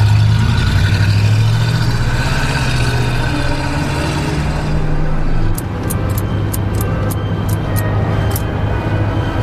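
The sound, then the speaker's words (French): A car engine hums steadily as the vehicle drives along a small, poorly maintained road in the darkness, a low continuous rumble with a slight shift in pitch midway, followed by a series of short, regular high clicks. “Le paysage change, les lumières de la station-service s'éloignent et le véhicule s'enfonce dans les ténèbres sur une petite route mal entretenue.”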